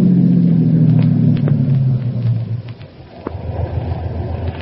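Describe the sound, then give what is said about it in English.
A car engine hums and drops in pitch as the car pulls into a gas station and slows to a stop, then settles into a low, steady idling rumble with a few faint clicks. “We'd better pull into this gas station.”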